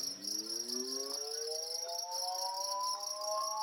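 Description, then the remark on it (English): Crickets chirp indoors in a steady, continuous high-pitched trill throughout, while a fainter tone slowly rises in pitch beneath them, like a siren. No one speaks. “crickets inside.”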